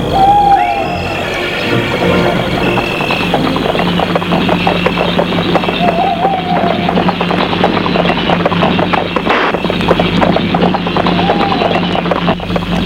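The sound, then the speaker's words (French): Steady, rhythmic clip-clop of a single horse's hooves pulling a cabriolet carriage, continuous for the whole stretch at daybreak in cool weather, with a few soft owl hoots calling in the background. “Ils vont prendre le cabriolet. C'est Franck qui va conduire, il n'a pas de cocher.”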